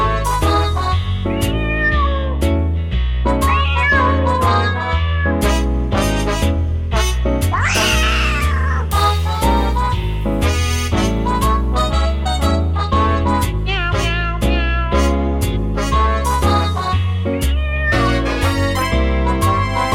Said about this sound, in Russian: Коты вопили, танцевали, и до утра звучал в подвале подпольный шазовый концерт.